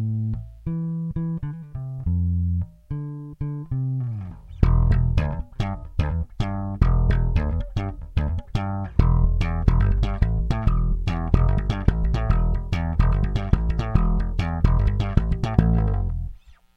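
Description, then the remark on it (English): A guitar on the player's slap setting, through a compressor that also adds a scooped EQ, plays a few held notes, then breaks into a fast, punchy run of plucked notes with deep low end, bright snappy attacks and steady, even loudness. “And so what that's doing is actually it's compressing, but it's also adding a scoop EQ, and it starts to sound a little bit like this.”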